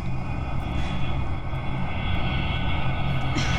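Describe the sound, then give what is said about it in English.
A loud, steady airplane engine roar fills the whole stretch, a low droning rumble with a whining hum, as a plane passes low overhead above a house, coming in to land at a nearby airport. “The young couple and estate agent look just above their heads and see a plane coming into land.”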